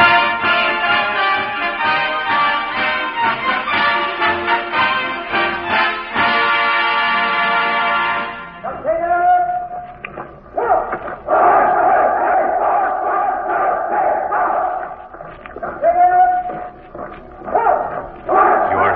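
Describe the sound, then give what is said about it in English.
American soldiers drilling at Fort Myer, Virginia: loud, barked commands and massed male voices shouting in unison, coming in rhythmic bursts with short gaps between, rough and strained in tone throughout. “Recorded sound of American soldiers drilling at Fort Myer, Virginia.”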